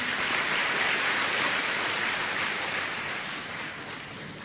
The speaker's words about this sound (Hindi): अच्छा, very good, सब तपस्वी कुमार हैं, ताली बजाओ फिर तो।